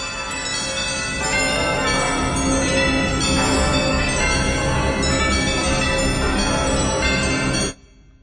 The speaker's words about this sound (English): It swung so softly at the outset that it scarcely made a sound. But soon it rang out loudly, and so did every bell in that huge, empty house.